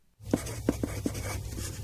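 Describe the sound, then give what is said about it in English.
A pen scratches across a paper form as payment information is filled in, in short strokes with a few sharper taps, set against a low steady hum. No one speaks. “Please fill in this paper with your payment information.”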